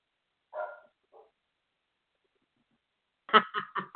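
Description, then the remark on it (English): A puppy barks: one short yap and a faint follow-up, then after a quiet pause a quick, loud run of four sharp barks. No one speaks. “Did you hear me yelling at the puppy?”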